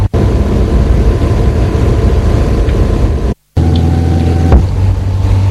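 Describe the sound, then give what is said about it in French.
A car, driven by a mother taking her child to school in the village, drives along with a steady, loud engine and road rumble filling the whole stretch, broken only by a brief moment of silence partway through. No one speaks. “La voiture pour aller à l'école, qui se trouve au bourg un peu plus loin.”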